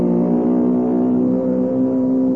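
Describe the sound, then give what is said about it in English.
An outboard motor engine revs loudly and continuously, a steady droning roar with a strong buzzing hum throughout and no one speaking. “Imagine that, a pony with an outboard motor.”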